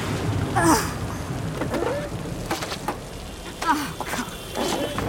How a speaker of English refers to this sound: Ugh, could it rain any harder? Ugh, well I guess it can.